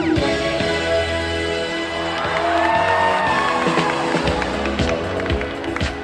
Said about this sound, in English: the crowd, normally known for shushing people, gets loud. Really loud.